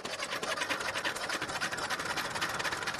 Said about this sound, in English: Success! The diesel engine has started and the all-new cooling unit is fixed in place. Well, almost.